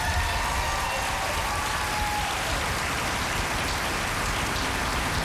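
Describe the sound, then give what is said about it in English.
Steady, dense applause from a large audience for musical director a band, loud and sustained for several seconds with no break and no voices over it. “give it up for our musical director ….”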